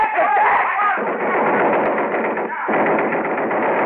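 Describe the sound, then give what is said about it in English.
A Thompson submachine gun rattles off blanks in a loud, dense, continuous burst of rapid shots, breaking briefly before the chatter of fire resumes. “A guy with a white mask on his face came in carrying a Thompson submachine gun.”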